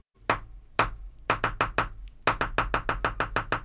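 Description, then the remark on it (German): Sharp knocking taps of a green woodpecker pecking as it practises the Bolero: a few spaced knocks, then quick bursts that settle into a steady, rapid series of about a dozen raps, with no voices. “Wer klopft da? Ein Specht?”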